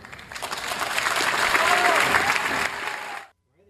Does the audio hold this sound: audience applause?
yes